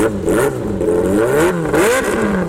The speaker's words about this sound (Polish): Ciche jest więc ciche dziś tylko z nazwy. Ten huk silników, zapach spalin, to jest też coś, co na pewno przyciąga na taki zlot miłośników jednośladów.